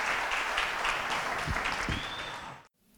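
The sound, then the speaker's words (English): A crowd claps steadily in a sustained round of applause to thank three people for sharing, dense and fairly loud throughout, with a couple of low thuds and a faint whistle before it cuts off abruptly. “We're going to take a few minutes to pray next, but could we all just give a big round of applause to these three to say thank you for sharing with us?”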